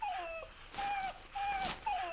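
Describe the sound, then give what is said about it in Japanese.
A stray puppy whimpers in a series of thin, high, wavering cries, about four short whines in quick succession, fairly clear with no talking. “あら、捨て犬かしら。”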